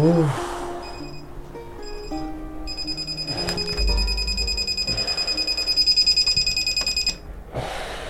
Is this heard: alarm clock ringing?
yes